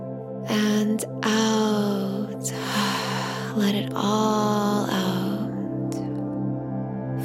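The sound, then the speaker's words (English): A few long, slow deep breaths in through the nose and out through the mouth, each a soft rushing sweep lasting a second or more, over a steady low musical drone. “And deep breath out. Another breath in.”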